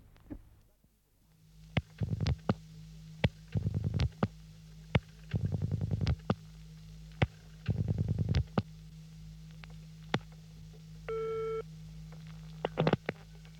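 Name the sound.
telephone line tones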